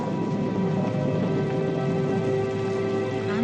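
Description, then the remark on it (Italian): Steady rain falling continuously, a dense even hiss with faint scattered patter and a low hum underneath, moderately loud and unchanging throughout, with no voices. “Aspetta, piove, vai, si vede se c'è un telefono, no?”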